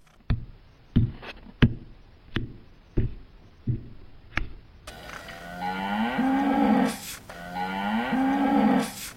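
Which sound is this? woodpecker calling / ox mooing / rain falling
ox mooing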